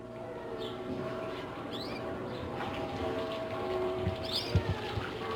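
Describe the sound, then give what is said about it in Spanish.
A calm ambience in the small garden of the house of maestro Julián Carrillo: scattered birds chirp over a steady wash of water flowing in a fountain, with a faint bell ringing far off on the horizon. No one speaks. “Una esquila lejana en el horizonte. Cantos de pájaros. Y este ruido apacible, manso, del agua fluyendo en una fuente.”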